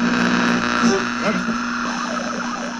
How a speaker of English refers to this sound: That little alien sound? Yeah, the little alien sound. He wanted to sound. Know what that was, and we replied, it's fucking radio static, stupid. It's the name of the video. It's Radio Static.